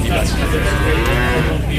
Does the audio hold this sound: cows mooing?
yes